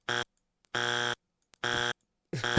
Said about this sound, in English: That was a Tourette's buzzer.